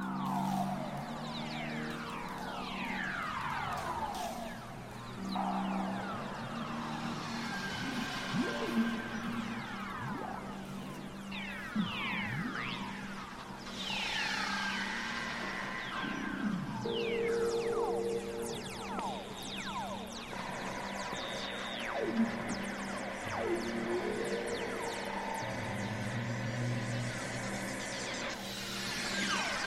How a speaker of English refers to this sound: An amazing type of chorus wave closer to Earth is the Whistler mode plasma wave, which sounds like space battles and laser fire.